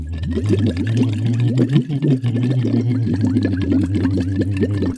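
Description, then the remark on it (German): A steady voiced hum runs underneath continuous bubbling, as someone blows through a silicone tube held in the mouth into a bottle of water, producing a busy stream of gurgling bubbles for the whole stretch. “und je nachdem, wie tief du diesen Silikonschlauch in das Wasser hineintauchst, desto mehr Widerstand bietet das deinem Atem, wenn du mit Stimme da Blasen blubberst. Also du nimmst den einfach in den Mund, das Ende des Silikonschlauchs.”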